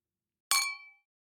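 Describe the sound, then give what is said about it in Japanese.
A single bright clink of glasses touching in a second toast at a two-person Christmas party, before eating cake, its high ringing tone fading out over about half a second, clear with silence around it. “ケーキ食べる前に、もう一回乾杯する？”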